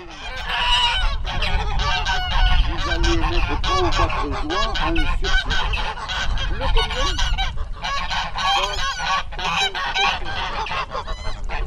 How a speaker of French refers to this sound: toutes nos oies sont très affolées, contrairement aux canards que nous avons devant nous. Déjà, on voit que les oies sont beaucoup plus sensibles et ça demande une surveillance beaucoup plus accrue qu'un troupeau de canards, un troupeau d'oies.